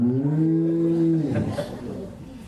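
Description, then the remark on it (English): A single drawn-out moo made by a person imitating a calf, steady and tonal for about a second before trailing off into quieter background noise. “That was a calf. Or maybe a goat also.”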